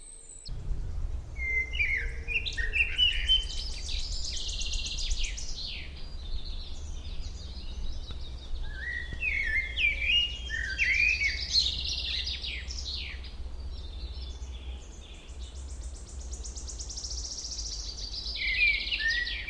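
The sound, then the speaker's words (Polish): A common blackbird sings a series of mellow, fluting phrases separated by short pauses, clear, over a steady low background rumble, with no one talking. “Zatem posłuchajmy głosu kosa.”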